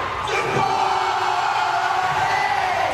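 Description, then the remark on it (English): At Travis Kelce's graduation at the University of Cincinnati, a large crowd roars and cheers continuously during his speech, with whoops and yells rising out of the dense, loud wall of noise for the whole stretch. “He revved up the crowd with his speech.”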